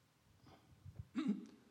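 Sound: throat clearing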